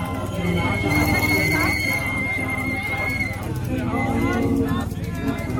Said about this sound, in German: Mehrere Rollis sind auch mit Notassistenz hier auch am Zug beteiligt. Wir gehen heute nur auf dem Bürgersteig und nicht auf der Straße entlang, damit auch Rollstuhlfahrer mit können. Hören Sie mal die Menschenmenge.